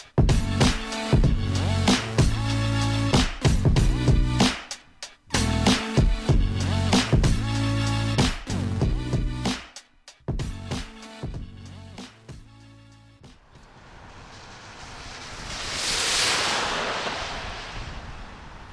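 After a run of sharp, rhythmic percussive bursts, a broad hissing whoosh swells up and fades as a car rushes through piles of slushy melting snow in mid-Michigan, with no voices.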